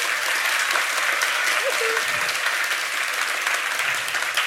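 Sustained audience applause, a dense, steady roar of many hands clapping at a constant loud level throughout, with no clear individual claps standing out.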